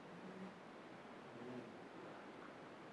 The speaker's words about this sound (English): See, that would be a wind and a wave.